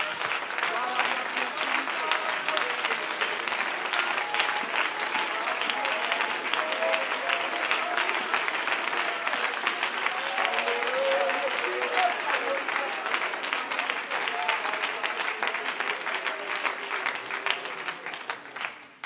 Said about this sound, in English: Let's clap our hands to the Lord today.